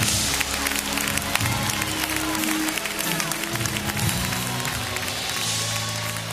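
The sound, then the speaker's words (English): A church audience at Living Word Church claps their hands and praises the Lord in a steady, continuous wash of applause, with scattered voices and low tonal sounds, likely instruments, running underneath throughout. “Somebody clap your hands and praise the Lord in this place.”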